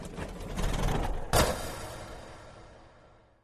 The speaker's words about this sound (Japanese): それから間もなく、ペットショップのシャッターが降りた。